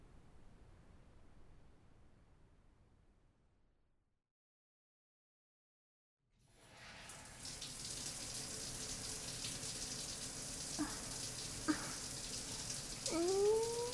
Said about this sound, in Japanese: ねえ、一緒にシャワー浴びない？